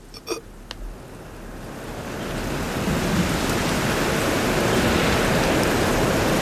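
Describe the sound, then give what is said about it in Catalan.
A steady, dense hiss of rain swells in over the first few seconds and settles into a continuous, even downpour, with a couple of faint clicks at the very start and no voices. “Plou. No recordo la darrera vegada que va ploure.”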